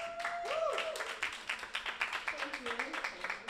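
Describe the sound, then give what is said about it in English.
Audience applause: a dense, steady patter of many hands clapping for a few seconds, with a few voices whooping and calling out over it. “Big round of applause for Oz 9.”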